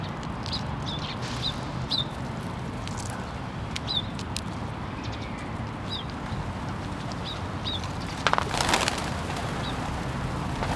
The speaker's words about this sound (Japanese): 西公園では早速ハトがお出迎えです。